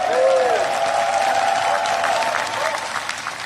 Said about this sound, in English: President Sandu is here today. I'm not sure if she is, but I'm proud to stand with you and the freedom-loving people of Moldova. Give her a hand round of applause.